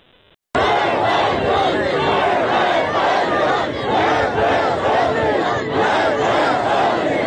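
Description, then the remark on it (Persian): A large crowd gathered at the grave of Fuad Mohammadi, killed in the protests, in Kamyaran chants "Death to Khamenei" in loud unison, the rhythmic shouting rising and falling continuously after a brief quiet start and filling the whole clip. “در کامیاران مردم بر فراز مزار فؤاد محمدی که 24 آبان ماه در جریان اعتراضات کشته شده بود جمع شدند. شعار مرگ بر خامنه ای سر دادن.”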